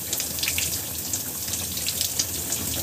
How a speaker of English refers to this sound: And so for the last step I do is I just roll my hair underneath the shower.